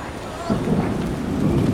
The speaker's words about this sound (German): Der dunkle Himmel verwandelt sich jetzt in ein kleines Unwetter. Und jetzt regnet es.